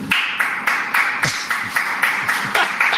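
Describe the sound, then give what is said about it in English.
One person claps steadily, about ten sharp, even claps in a row at a brisk, regular pace, fairly loud, with no voices over them. “That's my favorite. One guy.”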